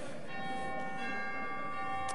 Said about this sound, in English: What does this sound like? What? Chimes. You like chimes? Bells, yeah. Doorbell.